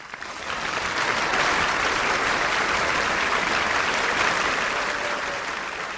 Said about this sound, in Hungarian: Taps a meghívottaknak.